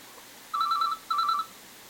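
A telephone rings in two short, warbling electronic bursts, clear against a quiet background, with no one speaking.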